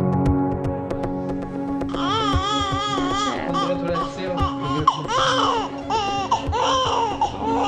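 newborn baby crying

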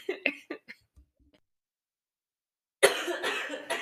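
coughing

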